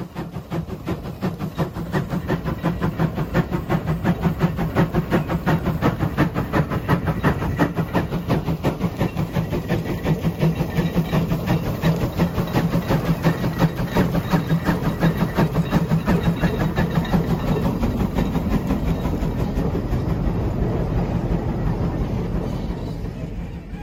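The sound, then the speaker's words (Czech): A Fowler steam traction engine, a steam ploughing engine able to plough with 21 shares at once, runs steadily, its rapid, rhythmic chuffing and mechanical clatter staying loud and even throughout, with a deep low rumble underneath and no voices. “Parní předchůdce traktoru, táč Fowler, dokáže orat 21 radlicemi současně a hravě strčí do kapsy dnešní nejsilnější John Deere.”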